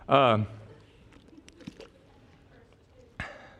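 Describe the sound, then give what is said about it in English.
A brief voiced sound, then a quiet stretch of soft sipping and swallowing noises with small mouth clicks as a speaker drinks a sip of water, ending with a short sharp knock. “Let me get a drink of water here just because my sermon's so dry, I got to wash it down.”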